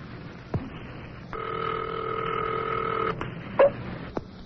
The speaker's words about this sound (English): What did I dial? What did I dial? I dialed our old number. It's ringing.